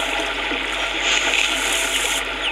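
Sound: rushing river water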